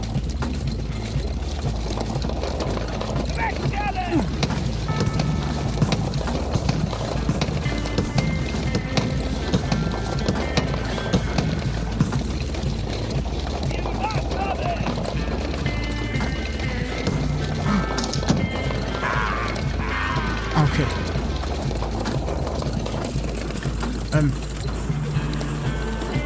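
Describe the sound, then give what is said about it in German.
Steady clip-clop of horse hooves pulling a cart, a brisk continuous rhythm that runs the whole time, fairly loud, with rumbling and rattling underneath and faint voices in the background. “Den Karren. Pferdchen.”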